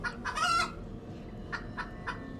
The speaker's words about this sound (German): Du hörst Gegacker wie von Hühnern. Hühnergegacker. Das ist ja komisch. Also wirklich, wie von Hühnern.